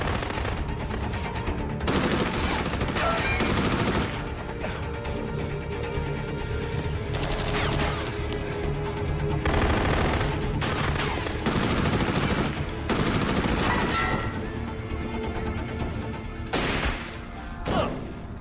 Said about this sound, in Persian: شلیک خوبی بود